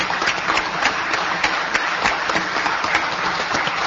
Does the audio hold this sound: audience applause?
yes